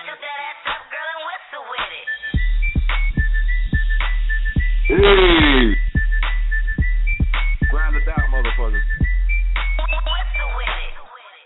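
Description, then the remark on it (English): A whistled melody rides over a song with a steady, booming bass beat, short whistled phrases repeating between vocal lines, loud and up front. “Okay, now whistle on it.”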